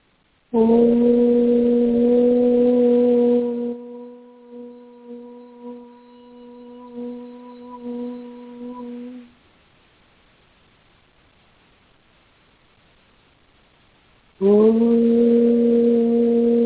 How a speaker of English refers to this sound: So before we begin our exercise, let us clear our energy fields. This will help us create and feel the balance within ourselves. As you listen to these tones, you will feel a clearing and balancing of your chakras.